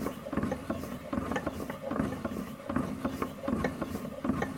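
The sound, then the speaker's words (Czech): A hand-cranked Holstein-type butter churn, which looks somewhat like a hand-operated washing machine, turns steadily, its gears and ratchet clicking and grinding in a regular repeating rhythm, fairly loud with no talking. “To je máselnice typu Holštín. Vypadá tak trochu jako ruční pračka.”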